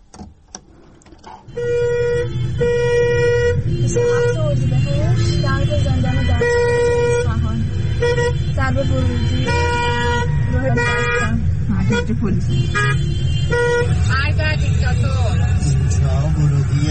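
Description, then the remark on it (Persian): Dense, heavy road traffic on a Wednesday night on the roads leading to Dastgerd prison in Isfahan, Iran, during protests, with many car horns honking repeatedly and overlapping, some long sustained blasts and short toots, loud, continuous engine rumble underneath, with voices faintly mixed in. “آقا ترافیک جلوی زندان دستگرد رو نگاه کنید، تازه هنوز اینجا نرسیده به زندانه.”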